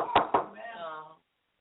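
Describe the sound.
Two quick, solid knocks on a door, close and fairly loud, followed right away by a man's voice speaking.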